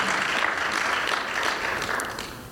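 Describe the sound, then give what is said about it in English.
A church audience claps together as a clap offering to the Lord during a Sunday morning service, in a steady, dense wash of applause that holds at an even loudness for a couple of seconds, with no voices standing out above it. “Let's give the Lord a good clap offering here this morning.”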